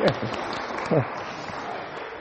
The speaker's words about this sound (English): Can I have a round of applause for the volunteers, because that's it.